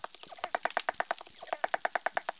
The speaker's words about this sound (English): The researchers sent us the dolphin sounds that they recorded. Here is one dolphin singing alone.